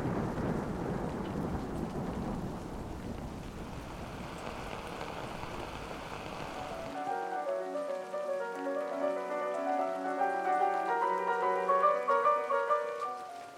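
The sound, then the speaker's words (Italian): Steady heavy rain of an approaching thunderstorm hisses with a low, rumbling storm undertone for several seconds, then the downpour fades out as a soft tonal, music-like passage takes over. “Fuori, nel frattempo, stava arrivando il temporale.”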